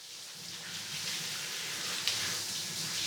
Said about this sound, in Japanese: それじゃあ泡を流すから頭を後ろにしてね。それじゃあいくよ。目に水と泡が入らないように気をつけてね。